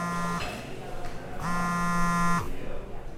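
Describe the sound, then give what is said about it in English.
A mobile phone vibrates in a pocket with two low, rattling buzzes: a short one, then after a pause a longer buzz of about a second, fairly loud and steady in pitch. “Okay, so you're in the middle of enjoying your lunch, and suddenly you hear that all too familiar buzz in your pocket.”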